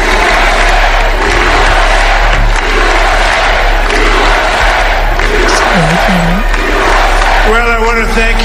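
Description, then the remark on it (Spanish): A large rally crowd roars and cheers continuously for Donald Trump with applause mixed in, loud and dense throughout, with some chanting voices rising near the end, as the crowd waits for him to begin speaking. “You see, sonido de la CNN, que también están esperando como nosotros a que empiece a hablar, pero insisto, se está regodeando en este momento, se está sintiendo aplaudido.”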